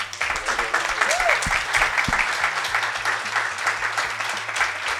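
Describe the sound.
An audience applauds steadily for several seconds, a dense wash of many hands clapping at a fairly loud, even level, with faint voices murmuring underneath.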